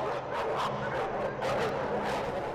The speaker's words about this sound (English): Dog fighting is a cruel and deadly activity in which dogs are forced to tear each other apart.